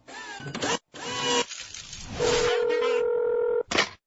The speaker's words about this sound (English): The phone rings. My partner, Mr. F, is calling. He is at an office.